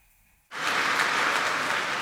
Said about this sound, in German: 3,5 Minuten Applaus für Parteichef Christian Lindner.